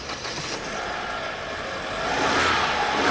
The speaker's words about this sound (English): This so-called flex fuel engine is the reason why. A year and a half ago, the multinational companies that build cars in Brazil started selling models that burn gasoline or alcohol, or any mixture of the two.